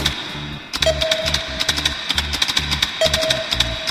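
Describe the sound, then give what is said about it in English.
A sound effect of someone typing numbers into a computer: rapid, irregular keyboard clicks with an echoey tail, over a steady high electronic whine and two short mid-pitched computer beeps. No one speaks. “And then, as you heard before, I have a sound effect of me typing in the numbers.”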